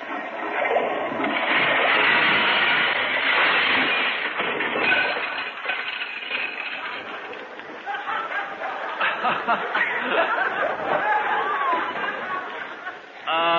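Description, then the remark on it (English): A dishwashing machine, loaded with a lot of dirty dishes and started with a button, runs with a steady, dense churning and sloshing roar, with scattered clinks of dishes rattling inside and a faint murmur of voices and chuckles underneath. “Well, here, we just put them all in this machine. Now we press the button.”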